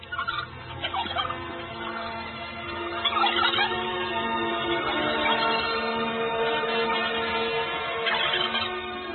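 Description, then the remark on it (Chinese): A flock of turkeys on a ranch gobbling in repeated bursts, several birds overlapping in noisy, rattling calls that rise and fall over a steady background, continuous with no talking. “第一件要办的事情就是快上牧场去照亮火鸡们，特别是那个瘦小的风铃”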